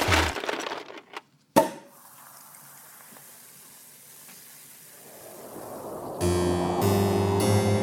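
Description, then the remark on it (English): A champagne bottle opens with a brief rustle and one sharp cork pop, then a soft, steady fizzing hiss before music comes in. “Let's open a bottle. Champagne.”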